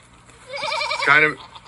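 A goat lets out a single loud, quavering bleat that wobbles in pitch and turns harsher and more nasal toward the end, with nothing else over it.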